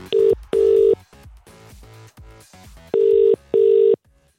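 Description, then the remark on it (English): An outgoing phone call's ringback tone: two pairs of steady electronic tone bursts with a short pause between pairs and a longer gap between the pairs, heard clearly over faint background noise. “Let's give her a call.”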